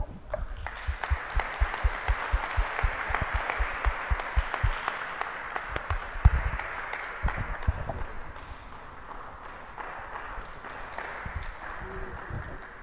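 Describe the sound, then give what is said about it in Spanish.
An audience breaks into sustained applause to welcome a speaker, a dense wash of many hands clapping that swells early, stays steady for several seconds, then gradually thins and fades out. “Entonces, les invito a recibirlo con un aplauso,”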